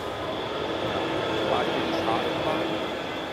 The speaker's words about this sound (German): Wenn Sie jetzt gehört haben, die Straßenbahn ist eben auch noch vorbeigefahren. Die macht auch bestimmte Nebengeräusche.